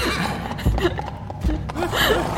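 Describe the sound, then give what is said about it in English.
A person imitates a horse with a wavering, whinny-like neigh and some snorting sounds. The mimicry is fairly loud, with short breaks, and lasts about two seconds. “I was born for Foley.”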